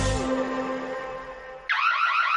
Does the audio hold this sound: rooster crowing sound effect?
no